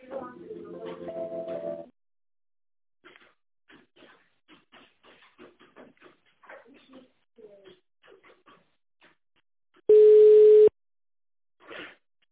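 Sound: telephone line tone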